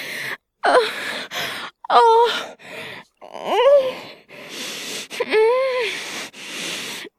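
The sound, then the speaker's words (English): A series of four or five breathy vocal moans and groans, each rising then falling in pitch, separated by short gasping pauses, fairly loud with no words spoken. “Oh, those moans, those growls, those sounds you make.”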